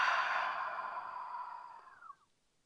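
A long, steady breath out through the mouth after breathing in through the nose, as part of a calming breathing exercise: a soft airy whoosh that fades gradually over about two seconds and ends with a slight tail-off, heard alone with no talking.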